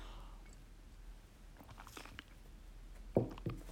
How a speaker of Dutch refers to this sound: Ik ga heel even, neem even een slokje water.